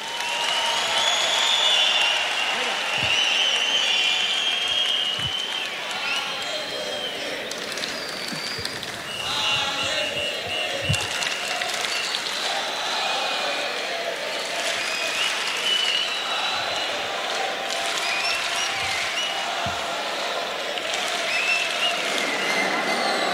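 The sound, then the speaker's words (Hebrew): An audience breaks into sustained, steady applause for Israeli government minister Aryeh Makhlouf Deri, a dense wash of clapping that holds at an even loudness for over twenty seconds without any speech over it. “מגיע לו מחיאות כפיים גדולות מאוד.”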